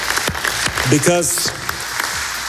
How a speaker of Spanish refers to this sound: Y quiero felicitar a Alexander Zeferin, a Al Khelaifi y a Florentino por este acuerdo. Y me gustaría pediros una ovación para Alexander, para Nasser y para Florentino.